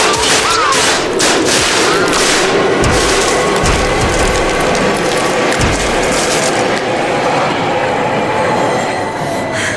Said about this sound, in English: Oh my God, look, there's a tube coming. What? You mean a train?